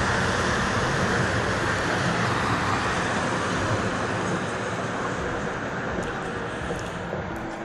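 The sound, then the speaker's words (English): A bus rumbles past with a loud, steady roar of engine and road noise that fills the whole clip, easing off slightly toward the end. No one speaks. “A bus just drove past.”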